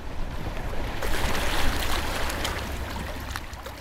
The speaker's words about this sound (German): Idyllisch plätschert die Neiße am Rand von Forst, eine Kleinstadt in der Lausitz, tief im Osten, an der Grenze zu Polen.